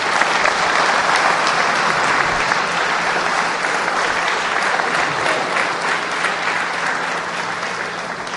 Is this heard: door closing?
no